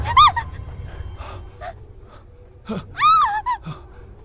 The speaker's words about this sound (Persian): آه، هیچی نیست عزیزم، فقط صدای یه حیوانه، مثل گوزنی چیزی.